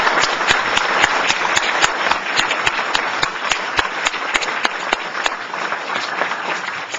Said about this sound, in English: But give this man a round of applause, please, for the labors.